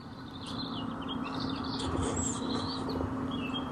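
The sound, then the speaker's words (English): Birds chirp and sing outside an open window on a humid night, several thin, high calls overlapping above a steady low hum of background noise. Moderately faint and continuous, with no one talking. “All right, everybody, go out there, look over the night sky, and think about singing birds.”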